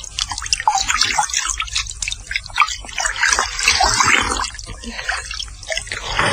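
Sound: splashing water on face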